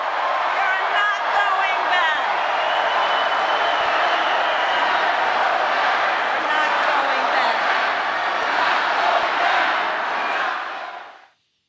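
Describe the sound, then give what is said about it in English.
A large crowd at a rally for Vice President Harris in Las Vegas roars and cheers continuously, a dense wall of voices with shouts and whoops layered over it, staying loud and steady for about ten seconds before cutting off abruptly. “I want you to just hear the crowd, a quick snippet.”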